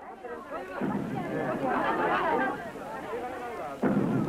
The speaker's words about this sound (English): Even before you saw Godzilla, you heard his footsteps falling on the earth ominously, shaking buildings and trees.